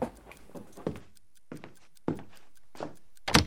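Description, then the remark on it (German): A door is yanked open abruptly on someone eavesdropping at it, preceded by a few dull thumps and shuffling knocks, ending in a sharp bang. No one speaks. “Da ist jemand an der Tür.”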